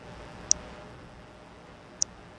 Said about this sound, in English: So it's ticking about, I'd say, once a second. Right? Is that about accurate? Yeah, once a second.